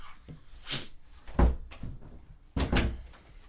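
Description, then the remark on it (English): A door is opened with a few solid clunks and a creaky rattle spread over a few seconds, with nobody speaking. “Somebody's okay. At the door.”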